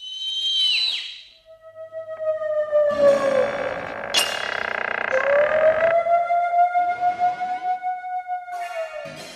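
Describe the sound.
A dragon, Pykhalka, gives a loud, drawn-out whistle on a balcony, with a wavering, siren-like pitch that dips and then slowly rises, buzzing with a pulsing, rough edge and rich overtones, heard alone for several seconds.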